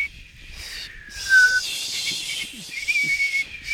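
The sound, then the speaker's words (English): A woman's thin, squeaky whistle blown through crooked teeth, wavering tunelessly on a high pitch with breathy hiss around it, sliding slightly downward then holding steady, moderately loud with no talking. “It sounds like it might be a tongue whistle, you know, through the teeth rather than a lip whistle.”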